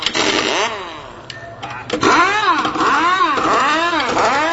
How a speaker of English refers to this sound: We have a race car here, and it's ready to be worked on. Let's go. 3, 2, 1, go! Jacking the car up.